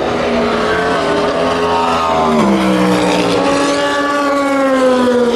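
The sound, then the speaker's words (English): Loud racing engines whine at high revs as race cars speed past during a race at 3:15 in the morning, going through the Dunlop Bridge and the S's into Tête Rouge, one pitch dropping sharply mid-clip as it passes, with other engines droning on steadily. No one speaks. “But before I hit the sack, I thought you might like to hear the sound of the cars.”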